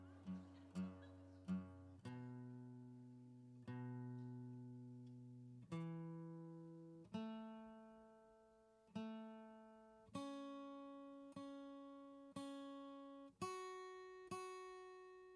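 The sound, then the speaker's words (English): A guitar being tuned between songs at a live show: single strings plucked one after another, each note ringing out and fading, with a few quick plucks at first and then slower, steady repeats a second or so apart. No one speaks. “You guys can clap after every time I tune the guitar if you want to.”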